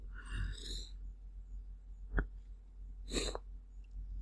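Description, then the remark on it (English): A few sharp, breathy sneezes burst out, a longer one at first, then a short snap and another sneeze, with no talking in between. “Excuse me, I just had a sneezing fit.”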